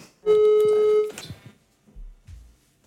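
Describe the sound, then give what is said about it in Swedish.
A single loud, steady telephone ringing tone sounds for just under a second as a call is placed to a mother, then cuts off, leaving faint low rumbles and quiet background noise. “Då ringer jag min mamma.”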